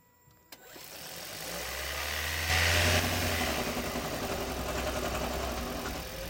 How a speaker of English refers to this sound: Toyota Hybrid engine rattling noise. What is it and how can we solve this problem? Let's hear it first.